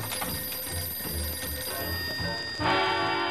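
A telephone bell rings with a steady, rattling metallic trill for the whole stretch, then swells noticeably louder near the end. No one speaks.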